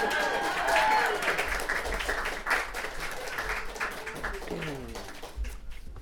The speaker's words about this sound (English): You can applause. It's okay.